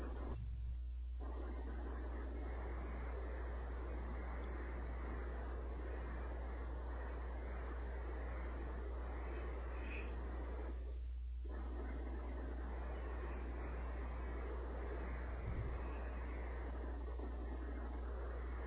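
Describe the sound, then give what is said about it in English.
Heavy rain, heard over a phone call, pours down in a steady, dense hiss that barely changes in loudness, with only two brief dips, and no one talks over it. “Pouring down raining over here. I can hear that.”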